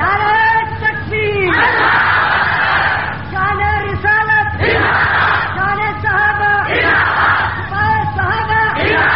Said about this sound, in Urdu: نعرہ لگانے میں آپ بہت ماٹھے ہیں، بڑے ڈھیلے ہو نعرہ لگانے، ہو جاؤ گے، ہو جاؤ گے انشاءاللہ. اٹھ اٹھ کے نعرے نہ لگائے تو آدم تارک نہ کہنا.